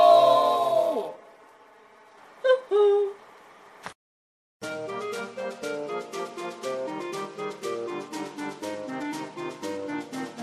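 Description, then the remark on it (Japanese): A cuckoo clock gives a single short two-note call, clear, after a fading tone. A click and brief silence follow, then a lively music jingle begins. “鳩時計がなりました。”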